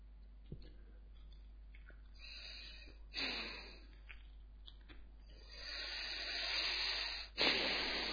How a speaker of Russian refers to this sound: Первого повитуха обхаживает, мальчик, уже пуповина перевязана, сейчас она его там обмывает, ну, в общем, мальчик не плачет, дышит, детям характерно в втором состоянии, в принципе, плакать, они в новой неизвестной атмосфере, а этот нет, молчит, дышит.